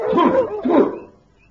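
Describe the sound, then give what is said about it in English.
Dogs bark at one in the morning in two quick overlapping bursts, loud, with whiny yelping tones, then fall quiet after about a second. “I wouldn't mind if there was something to bark at.”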